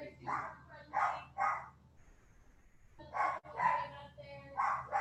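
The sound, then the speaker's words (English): Several pet dogs belonging to a woman bark in quick bursts, three short barks, a brief pause, then a longer run of overlapping yips and barks, fairly loud and mid-pitched with a steady low hum beneath. “We hear her doggies.”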